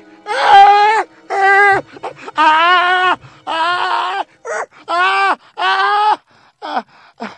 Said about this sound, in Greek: Ο καημένος ο … έβγαλε μια δυνατή κραυγή από τον πόνο του και αμέσως σωριάστηκε στο χώμα.